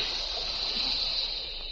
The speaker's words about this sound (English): That jet of fresh, pure moisture stands for the new freshness, new taste, and the new, all-new Rolly 903 cigarette.